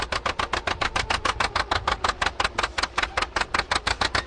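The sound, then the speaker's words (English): An old farm tractor engine chugs steadily at a plow day on a Champaign County farm, its loud, rhythmic putt-putt firing in even pulses throughout with a deep low rumble underneath and no voices. “Up next, a bunch of old farmers had some fun this past weekend with their old tractors.”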